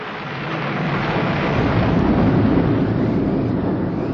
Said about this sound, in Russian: Всю ночь бушевала буря, но ничего особенного не случилось.